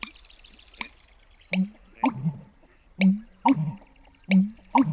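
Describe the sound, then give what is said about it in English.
An American bittern's pumping call: deep, hollow, gulping booms repeating in a steady rhythmic series, prominent, with faint clicks and background noise and no talking. “Yep, that's a bird too, the American bittern, variously called shite poke, stake driver, or thunder pumper.”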